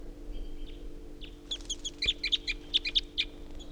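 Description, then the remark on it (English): Several wild birds perched at the top of a tall ponderosa pine call in quick, chattering bursts of high chirps, a rapid stuttering series rising in intensity midway, with a faint low hum underneath and no voices. “And that tupper was just joined by another wild bird.”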